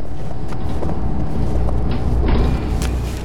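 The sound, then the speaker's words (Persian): A bus engine rumbles steadily in the distance at 5 a.m. in thick morning fog, with a few clunks and a short burst of air hiss as it pulls up and its doors open. “صدایی را از دور میشنوم، بیشک صدای اتوبوس است، اما مه صبحگاهی آنقدر غلیظ است که من به هیچ عنوان چیزی را نمیبینم.”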